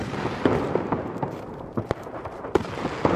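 A salvo of fireworks going off: a quick, irregular string of sharp bangs and pops over a steady low rumble, with no voices.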